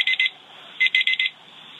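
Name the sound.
bell ringing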